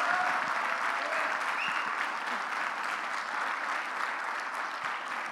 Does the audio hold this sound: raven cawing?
no